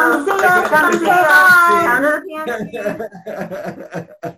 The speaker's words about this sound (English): Thank you all for being here. And thank you, listeners, for listening. Yes, clap away.